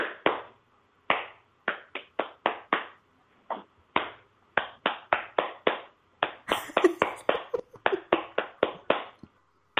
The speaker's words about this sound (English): So, this is something I actually figured out with my snorty boy since he's here. If I start clapping with clapping the dum de dum, he settles down.